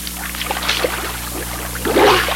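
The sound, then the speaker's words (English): A hand splashes in the water beside a small boat, making waves, with irregular bursts of sloshing, slapping and churning that swell louder near the end. “Oh, no, don't put your hand. You're making waves.”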